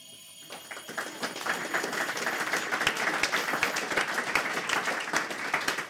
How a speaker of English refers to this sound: If I let the air back in again, though, which takes a while. So then if I press the bell while you're letting the air back in, we should be able to hear it starting to get louder. Can you all hear that?